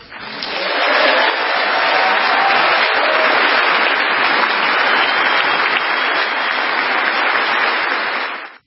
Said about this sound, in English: And the Associated Press reported Zelensky received thunderous applause from members of Congress